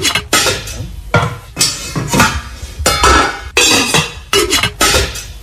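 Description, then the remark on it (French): Metal pots and pans clatter and clang repeatedly in a kitchen, a series of sharp, loud impacts with ringing clinks in an irregular rhythm, with no voices. “Oui, c'est des bruits de cuisine ou de casserole, de poêle.”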